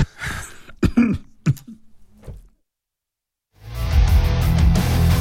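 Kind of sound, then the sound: human body sound, coughing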